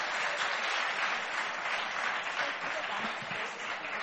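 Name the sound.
audience applause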